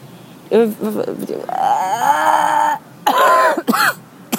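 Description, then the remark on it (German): A long, croaky burp drags on for over a second with a low, rumbling voiced tone, set between short bursts of vocal sounds and chatter. “Das warst du wie der Rülpser gestern in der Bahn.”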